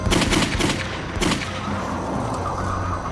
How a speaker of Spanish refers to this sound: Otra noche oyó disparos.